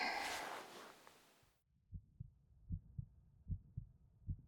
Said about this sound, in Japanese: お姉ちゃんの心臓の音、聞こえる？